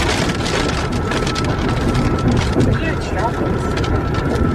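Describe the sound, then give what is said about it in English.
Rain starts to pour down steadily, a dense hiss of drops pattering on a surface, holding an even loudness from start to finish with no breaks. “Here comes the rain.”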